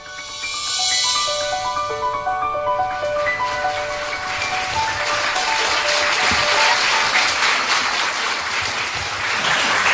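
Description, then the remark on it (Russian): A short run of melodic notes gives way to an audience's sustained, steady applause at a «Прямая речь» (Pryamaya Rech) lecture by Leonid Mlechin on Trotsky, dense clapping that keeps up at a fairly even loudness until the end with no voices. “Вы же знаете, какие грустные вещи я буду рассказывать, что аплодировать.”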